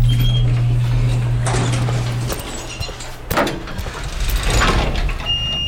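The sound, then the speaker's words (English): A steady low mechanical hum fades out as an elevator car arrives, then a soft thud and a rolling whoosh as its sliding doors glide open, with faint rattles and a brief high tone. “And here comes the car.”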